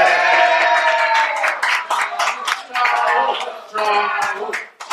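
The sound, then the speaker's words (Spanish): An audience claps and cheers, with scattered sharp hand claps mixed with loud shouting voices and whoops throughout, rising and dipping in bursts. “Ya no me aplauden. El público.”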